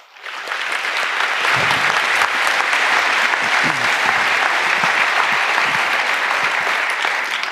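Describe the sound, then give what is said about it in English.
Sustained audience applause at the anniversary edition of the C3 conference, welcoming a speaker to a talk on attacking TLS. It is a dense, steady wash of many hands clapping at even loudness for several seconds, with faint murmurs and a few low thumps beneath it. “Please welcome, with an anniversary edition applause,”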